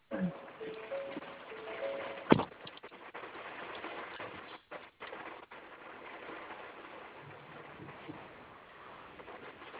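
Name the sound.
rain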